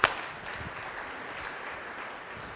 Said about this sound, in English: Can I say here an amen? Let's do a little clap like this.